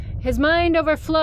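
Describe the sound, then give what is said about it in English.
A voice imitates a fire alarm with a loud, sustained, buzzy tone at a steady mid pitch, broken by two brief gaps into three bursts. “I'm actually gonna make a fire alarm noise, lest y'all hate me.”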